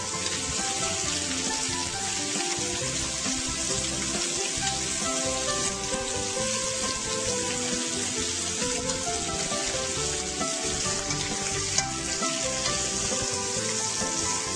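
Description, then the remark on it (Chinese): Steady sizzling of pork frying in a hot pan, releasing some of its fat as it browns on both sides, a dense crackling hiss that continues without pause for the whole stretch, with no voices. “煎到这个油哈，都有一点猪油都有一点释放出来，都无所谓哈，那个猪油很香的哦。”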